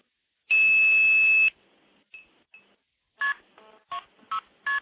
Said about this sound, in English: So I'm going to dial KP2602 start, and that'll give me a dial tone. And thereafter, I'm going to use the touch tone pad on the phone here to stack a number of trunks repeatedly.